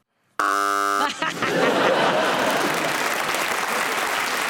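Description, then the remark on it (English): A loud, harsh electronic game-show buzzer blares for under a second as a panel-game player buzzes in for hesitation on the subject chaise longue, followed at once by a burst of audience applause and laughter that carries on steadily to the end. “I buzzed for hesitation, but I had fun while I was doing it.”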